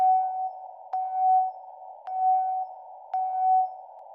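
A steady mid-pitched Morse code tone, the beginning of a Russian Navy radio message spelling the three letters RMP, keys on and off in evenly spaced beeps about half a second long, each starting with a faint click, over a low background hiss.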